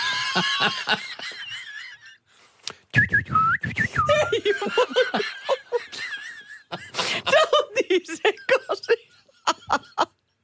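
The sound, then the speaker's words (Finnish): A person whistles imitation bird calls, a string of warbling, trilling chirps and quick rising and falling tweets, fairly loud, with breathy bursts and brief pauses between phrases. “mutta itse pidän siis lintojen ääniä.”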